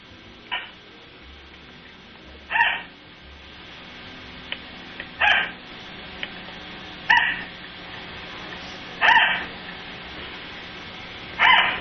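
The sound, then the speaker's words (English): A dog, Mia, barks about six times in a steady, insistent pattern because she wants attention. Each bark is one sharp mid-pitched bark, roughly every two seconds, with faint background hiss between them and no talking. It is a recording of her played from a computer. “This is the sound that Mia makes when she wants some attention.”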